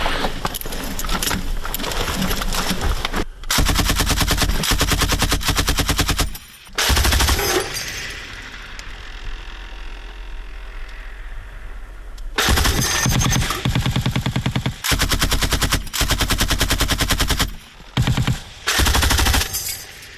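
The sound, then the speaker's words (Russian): Loud, rapid machine-gun fire in long sustained bursts from a sighted machine gun at a front-line firing position, a dense stream of cracking shots broken by short gaps and one longer quieter lull midway, with no voices. “Стрелы, что делаем, у нас тут стоит на этом пулемете типа визийный прицел.”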